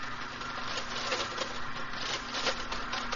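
Rapid, irregular clacking of a typesetting machine's keys struck by an operator using all fingers in different places on the keyboard while setting the first line into type, a dense mechanical patter over a steady low hum, with no voices.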